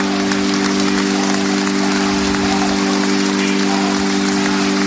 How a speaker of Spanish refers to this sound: Pues con estos aplausos y con la bendición del Papa Francisco ha terminado la ceremonia que hemos podido seguir íntegramente aquí en directo en COPE